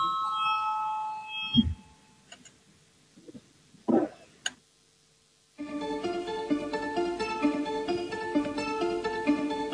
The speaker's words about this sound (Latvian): Lūdzu zvanu, balsosim par 8.